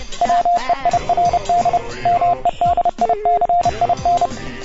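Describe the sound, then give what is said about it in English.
A steady, high-pitched tone keys on and off in quick Morse code dots and dashes, loud, playing over a busy musical background for the whole stretch. “It's Weird Medicine, or in Morse code.”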